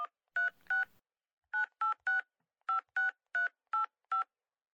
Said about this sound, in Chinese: 算了，我还是给他打电话吧。